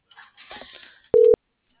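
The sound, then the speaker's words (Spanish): A single short, steady electronic ringing tone of an outgoing phone call from a dispatch control center to a colleague on the road sounds loud and clear right after a moment of faint, muffled talking, then silence follows. “O mejor le marco por mi teléfono, digo, ¿qué pasó, compa?”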